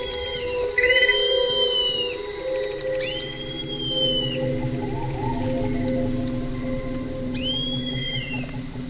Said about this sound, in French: Quelque part en Guyane, des oiseaux, des grenouilles, des insectes. Et au milieu de ce concert, le Lernaeca, un tout petit grillon d'un centimètre et demi dans la couleur, semblable aux feuilles mortes, lui permet de se fondre dans son environnement.